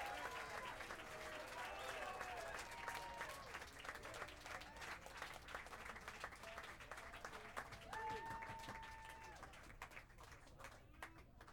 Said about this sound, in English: A warm round of applause, if there is any other kind, for Alfonso Johnson.